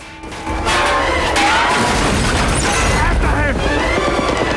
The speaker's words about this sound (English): Matthias uses the gong to break down a door.